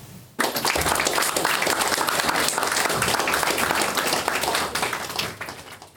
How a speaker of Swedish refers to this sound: Och där tonade applåderna ut på den föreläsning som författaren, synpedagogen med mera Christer Inde höll i SRF Skånes regi i förra veckan i Malmö.